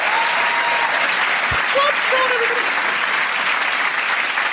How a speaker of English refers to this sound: Round of applause for everyone who sent those in. They're so good, so funny.